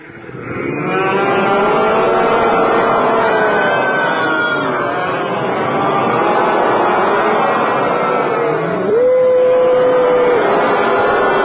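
Several cows moo loudly and continuously, their low, drawn-out calls overlapping throughout, with one long rising moo standing out near the end.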